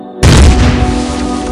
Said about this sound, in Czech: Prázdné auto namířené na velvyslanectví se skutálilo z kopce, narazilo do obrubníku a explodovalo.